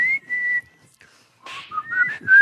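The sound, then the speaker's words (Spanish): A person whistles a short melodic tune, a steady held note first, then a brief pause before rising, sliding notes; fairly loud, with faint breathy noise underneath. “Bueno, ya no la chifles, que es cantada.”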